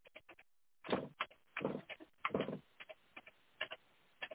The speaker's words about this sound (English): Now, slide out the drawer.